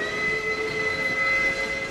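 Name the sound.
train whistle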